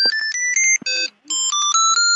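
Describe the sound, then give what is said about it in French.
A loud electronic ringtone from a tracker built into a pair of eyeglasses, set to ring so they can be found, plays a stepping melody of bright, sustained beeps, changing pitch every few notes, with a brief pause midway before the tune resumes. “On peut entendre le son qui sort des lunettes, on l'a ?”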